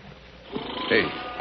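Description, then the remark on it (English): A big cat roars once in a box canyon, a rough, rumbling growl swelling midway, mixed with the uneasy lowing of frightened cattle over a steady background hiss. “The cattle sound plenty scared. That cat must be in there with him.”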